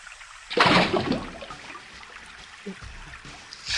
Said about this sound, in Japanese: 二人は満身に火を浴びながら、しぶきを跳ね飛ばして他愛もなく遊んでいます。